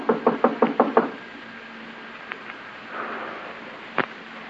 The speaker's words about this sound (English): Knock again.